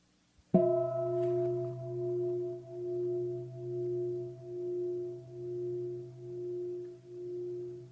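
bell ringing

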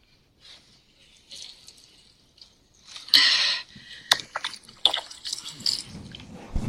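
water running

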